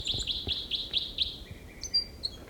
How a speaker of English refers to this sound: Bird six there with a song phrase.